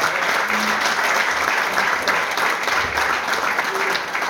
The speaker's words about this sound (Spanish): Y un gran aplauso para esa juventud.